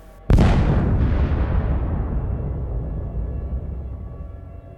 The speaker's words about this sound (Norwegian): Så, flere smell på rad. Før alt ender en kolossal eksplosjon som kan føles i bakken langt unna.